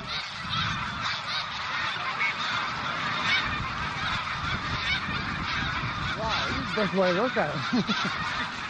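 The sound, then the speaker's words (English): A huge flock of thousands of snow geese rising up from the ground, honking together in a dense, continuous, loud clamor, with individual calls rising above the wall of sound near the end. “It was as if the ground where the snow geese were had been covered with snow, and then someone scooped it all up”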